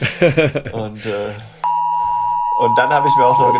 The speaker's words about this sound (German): jetzt hört ihr gerade den 11 Uhr Signalton. Ja, jetzt ist hier bei uns Signalprobe für die diversen Sirenen und natürlich, das war mein Handy, ja, das hier kurz reagiert hat, ist Punkt 11 Uhr.